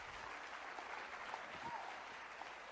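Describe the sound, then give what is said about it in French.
An audience claps for the dream of God, a dense, even wash of many hands with no pauses, holding at a fairly constant level throughout. “Quelqu'un devrait applaudir le rêve de Dieu.”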